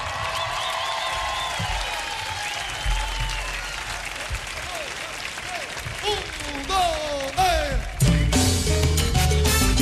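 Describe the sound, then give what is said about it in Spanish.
A crowd applauds continuously, loud and close, with scattered cheering voices over the clapping. Near the end, music begins to play under the fading applause. “Merci beaucoup, el aplauso.”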